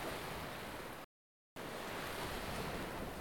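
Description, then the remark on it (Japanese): Steady, loud wash of ocean surf on a white powder-sand beach with an emerald-green sea, a continuous hissing roar that drops abruptly to silence for half a second before resuming just as full. “白いパウダーサンドのビーチ、エメラルドグリーンの海。”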